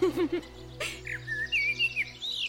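A bird chirps in a quick series of bright, high whistled notes, rising and falling, after a brief lower warbling sound at the start.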